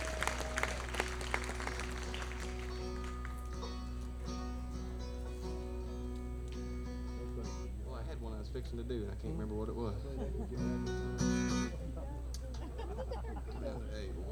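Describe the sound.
An audience breaks into a round of applause for a fill-in performer, with a dense, steady patter of clapping over a low hum, and voices talk afterward.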